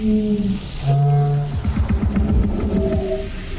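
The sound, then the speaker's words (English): Pitch-lowered recordings of local New Zealand birds, with other animals and instruments such as bagpipes and didgeridoos added, form the alien language of the sci-fi film Arrival: deep, sustained wailing tones with buzzy harmonics, broken midway by a rapid burst of throbbing, clicking pulses before the moaning calls return. “To create the language of the aliens, New Zealand-based sound designers David Whitehead and Michelle Child recorded local birds and lowered their pitch, then added some other animals and instruments like bagpipes and didgeridoos.”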